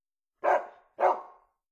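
A dog barks twice in quick succession, two full woofs with a brief gap between them, and nothing else around them.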